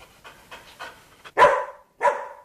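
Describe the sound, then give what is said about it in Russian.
A hunter's dog of unknown breed pants in quick, soft breaths, then lets out two loud, sharp barks about half a second apart, with no one talking. “А что это у вас, песик, аглицкий, али фурлянский какой?”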